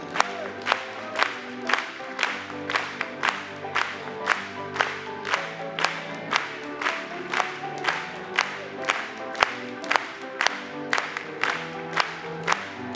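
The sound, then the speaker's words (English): An audience claps together in a steady, even beat, about two claps per second, loud and sharp, over sustained tones of music or singing, with some crowd cheering mixed in. “Let's clap it one more time.”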